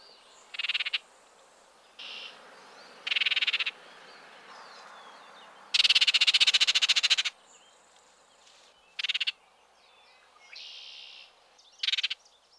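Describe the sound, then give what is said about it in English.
An oriole's whistled song phrases come in short, separated bursts, broken midway by a loud, harsh rattling chatter lasting over a second. The bird sounds clear, with no talking. “At times, the best vocal key to this bird's presence is the harsh chatter that often accompanies the song.”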